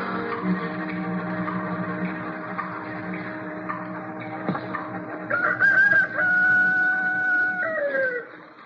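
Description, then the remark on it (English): A rooster crows loudly, a long drawn-out cock-a-doodle-doo rising and then falling away over a steady background hum. “Oh, what's he got to crow about?”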